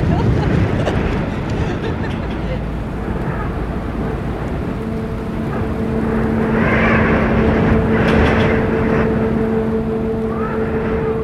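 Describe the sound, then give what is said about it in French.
Strong wind buffets and whips against a jacket hood outside on a boat at sea amid energetic waves, a loud continuous rumbling roar; partway through, a steady low mechanical hum joins underneath. “Plus parce que j'ai le vent qui fouette dans la capuche.”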